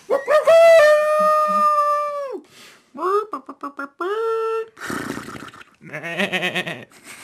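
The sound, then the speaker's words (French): A person imitates a dog howling as an animal noise for opening credits, starting with a long sustained wavering howl, then a series of shorter yelps and howls, followed by rougher, grunting animal-like noises, fairly loud. “pourrait faire des bruits d'animaux aussi dans le générique. Miaou. Mmh. Un chien, un cochon.”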